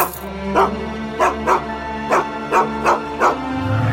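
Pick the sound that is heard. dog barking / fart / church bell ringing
dog barking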